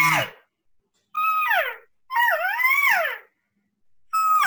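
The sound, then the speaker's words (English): Four nasal, high-pitched cow calls blown on a game call while hunting in the morning, each a whiny mew that bends downward. The third is longer and wavers up and down, with short silences between calls and no talking. “Just basic cow calls.”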